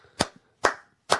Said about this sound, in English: That's him clapping himself.